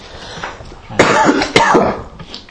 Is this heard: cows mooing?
no